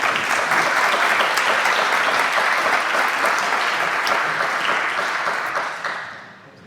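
A crowd applauds in a dense, steady wash of clapping that holds strong for about five seconds, then tapers off and fades toward the end.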